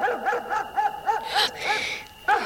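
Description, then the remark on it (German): A dog suddenly starts barking near a castle around midnight, barking repeatedly in quick, yappy bursts, fairly loud, with a rapid irregular rhythm and a brief whiny edge between barks. “Gegen Mitternacht liefen die beiden Jungen zum Schloss, lautlos auf ihren Gummisohlen, aber doch nicht unbemerkt, denn plötzlich schlug ein Hund an.”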